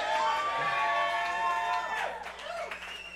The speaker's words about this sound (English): You guys, give yourselves a round of applause. You did great, and thank you so much for being here.